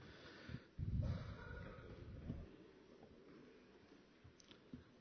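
A councilwoman has a coughing fit during a municipal council session, fairly faint and muffled: one heavy burst of coughs early on, then a few smaller, scattered coughs trailing off, with no one speaking.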